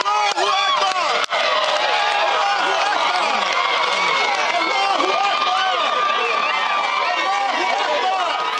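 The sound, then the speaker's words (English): A large crowd of Troy Davis supporters cheers and shouts after news about his execution, a dense, continuous roar of many overlapping voices that stays loud and steady throughout, with one brief dip near the start. “We're hearing some kind of cheer that has gone up.”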